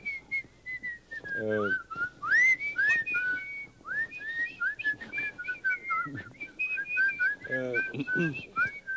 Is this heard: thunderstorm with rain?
no